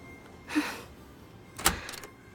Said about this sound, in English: Oh fuck, is that the door? Is that you? I don't even know your name. God, I hope it's you. Or else you gave me the wrong hotel room.